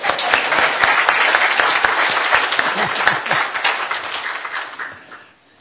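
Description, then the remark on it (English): An audience claps again to celebrate a couple's 50th wedding anniversary, breaking into dense, steady applause, many hands clapping together in a loud continuous patter that holds for several seconds before tapering off and fading out at the end. “And since you were late, I want us to clap again.”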